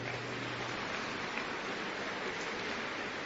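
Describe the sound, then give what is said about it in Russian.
A crowd at a worship service claps steadily throughout to welcome first-time visitors, producing a dense, even wash of many hands with no voices rising above it and no break in the applause. “Поприветствуйте их аплодисментами.”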